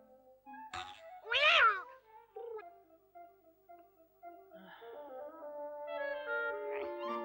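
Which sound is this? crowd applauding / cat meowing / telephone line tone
cat meowing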